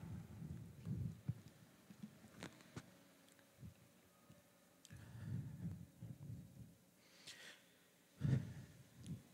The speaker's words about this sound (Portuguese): Descansar um pouco. Estou aqui ofegando.